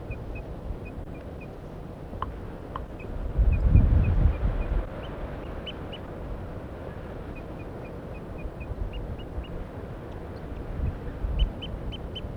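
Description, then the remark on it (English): A wild bird up in a pine tree gives soft, repeated alarm calls and very soft toop notes in short, evenly spaced runs, faint, over a steady low rumble of background noise. “The decoys are just giving soft alarm calls, and so is the wild bird, now tooping.”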